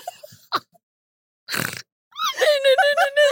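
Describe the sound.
A person makes a short, rough, pulsing pig-like grunt, preceded by a quick snort and followed by voiced, laughing sounds.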